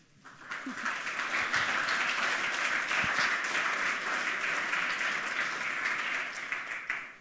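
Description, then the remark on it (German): An audience applauds steadily for several seconds, welcoming three women speakers before their talk on the digital divide created by law; a dense, even wash of many hands clapping that swells quickly at the start and tapers off slightly at the end, with no voices. “Einen schönen Applaus.”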